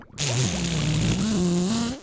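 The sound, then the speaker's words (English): A voice imitates a fart with one long, buzzy raspberry lasting about two seconds, fairly loud, its pitch wobbling and rising slightly before it stops. “Can you make the noise of farting?”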